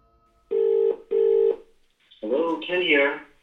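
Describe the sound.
Two steady electronic telephone tones sound in quick succession, clear and fairly loud as if through a phone line, followed by a voice beginning to talk.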